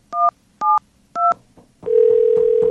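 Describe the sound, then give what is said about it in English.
Three short, evenly spaced telephone dialing beeps as a prank call is placed, each a bright two-note chord, followed by a steady, lower continuous tone from the phone line. No one speaks. “We're going to call”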